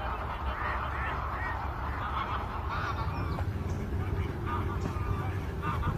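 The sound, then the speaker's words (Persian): A noisy flock of geese and ducks kept in a decoy trap enclosure honks continuously, their overlapping calls mixed with duck quacks over a steady low rumble, with no pause across the whole stretch. “روشی هست به اسم کرس که جاهای خاصی رو درست میکنن به درش دونه میریزن، یه تعداد غاز و اردک در اون نگهداری میکنن و تو مسیر این به بیرون ارتباط داره و در اون مسیر هم باز دونه میریزن، غاز جلب میشه و میاد جلو به داخل این، بعد در میبندن.”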